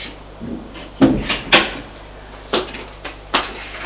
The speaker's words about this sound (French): Une armoire qui s'ouvre, qui se referme.